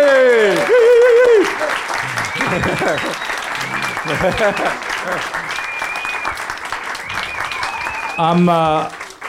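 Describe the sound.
A crowd claps steadily for several seconds in a dense, sustained round of applause, with a voice speaking loudly over it at the start and again near the end.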